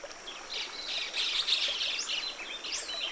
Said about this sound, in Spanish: Si no captaste todas las voces de las aves, no te preocupes. Puede ser difícil al inicio, pero con práctica se vuelve más fácil.